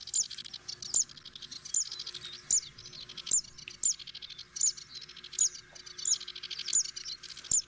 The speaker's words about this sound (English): The Zitting Sistacola is another widely distributed bird across Southern Europe, Africa, Southern Asia, and Northern Australia. It's a small warbler that is found mainly in grasslands.